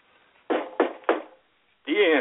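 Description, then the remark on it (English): Three firm knocks in quick, even succession, each dying away briefly, followed by a short pause before someone begins speaking. “Got to end with a knock.”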